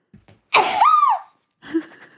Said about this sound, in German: Ich muss niesen. Gesundheit.